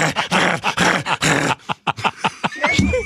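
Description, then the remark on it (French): A dog barks and growls, loud gruff barks in a quick series at first, then shorter snarling yips and grunts, with no one talking over it. “Imagine si les sonnettes de porte puis les chiens inversaient leur bruit.”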